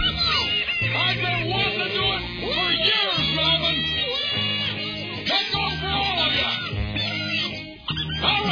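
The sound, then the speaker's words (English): A cat meows repeatedly, its drawn-out, rising and falling cries layered over a steady droning musical background, fairly loud throughout. “You want me to let the cat in here?”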